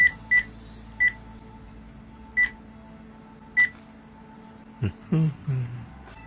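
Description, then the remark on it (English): A series of short telephone keypad tones, about six beeps spaced irregularly as a number is dialed, followed by a couple of brief low thumps or handling sounds near the end. “We'll check the phone number.”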